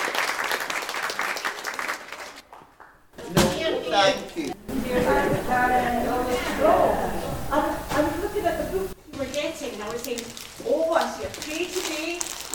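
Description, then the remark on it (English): An audience breaks into a burst of steady clapping for the leaders of a group of young people, dense and loud, which carries on beneath voices as people start talking over it. “So can we have a clap?”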